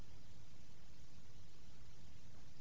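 A steady wash of harsh, static-like noise hisses and crackles without pause, dense and unchanging, with no melody, beat or voices, just a continuous distorted roar.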